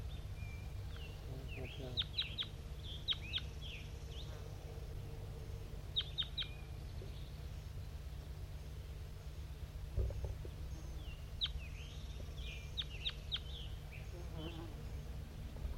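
bird call

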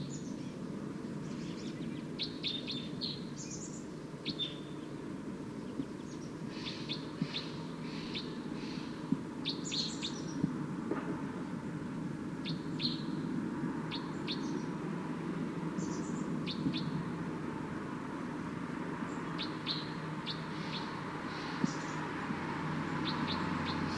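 wild bird calling

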